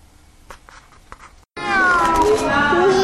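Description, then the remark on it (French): After a second and a half of near silence with a few faint clicks, a cat breaks into loud, drawn-out meowing that wavers and slides in pitch, continuous until the end. “Miaou, miaou, miaou, miaou, miaou, miaou, miaou.”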